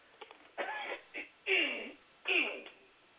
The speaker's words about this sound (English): Well, I have this frog in my throat today, and I don't know where it's coming from, but it needs to go away because I really don't have time for this. So hold on a second. Let me clear my throat so we can get this show continued.